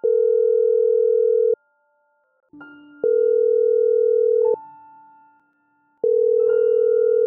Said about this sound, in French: J'en étais à ma 10e vidéo quand mon téléphone a sonné.